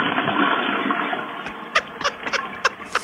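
household object, toilet flushing

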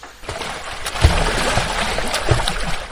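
nature, water splashing

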